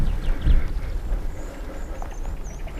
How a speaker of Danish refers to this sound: Men lige pludselig, da jeg kommer ud på den anden side af en lille sti, der går gennem gyvler højere end jeg, står der en hest. Kigger mig ind i øjnene og virker mindst lige så overrasket som jeg. Der står en hest. Der er den.